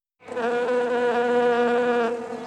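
A bee collecting nectar on a flower buzzes steadily, a continuous droning hum that starts abruptly and holds for a couple of seconds, slightly wavering in pitch, with no voices.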